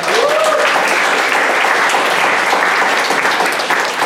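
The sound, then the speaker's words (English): A crowd applauds steadily, a dense, loud wash of many hands clapping with no clear individual beats, sustained evenly for about four seconds without any talking. “Cool, you guys might give them a round of applause.”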